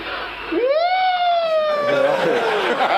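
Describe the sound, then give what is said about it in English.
A soft siren wail rises smoothly, then holds a steady, slightly falling tone for a couple of seconds, with a faint crowd-like murmur building underneath toward the end. “It's just such a soft kind of siren.”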